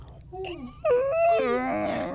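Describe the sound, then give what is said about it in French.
A voice imitates a squealing whine: a few wavering, nasal cries that slide up and down in pitch, the last one louder and more strained, over a faint steady low hum. “Le cuinement.”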